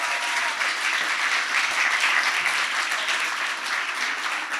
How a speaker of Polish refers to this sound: Wielkie brawa